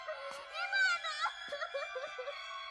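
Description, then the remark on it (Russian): A person cries and wails in a continuous wavering, high-pitched voice, sobbing with short breaks, and no clear words. “Сейчас чайку тебе, не плачь.”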